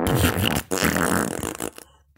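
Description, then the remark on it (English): A loud raspberry blown with the lips imitates a fart, sputtering in two wet, buzzy bursts over about two seconds before cutting off. “I just feel like we haven't done the fart noises enough.”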